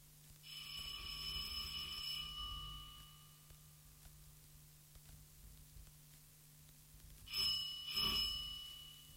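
A doorbell at an uncle's house, rung by visiting children, rings with a bright, sustained metallic tone lasting about two seconds, then falls quiet before two short, sharper rings close together near the end. No one speaks.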